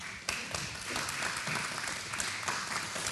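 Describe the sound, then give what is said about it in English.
A crowd breaks into applause, many hands clapping together in a dense, steady patter that holds at a fairly even level for a few seconds. “You guys just clapped like the wave. It kind of started a little bit and it kind of got louder and it's I'm not sure if I want to clap.”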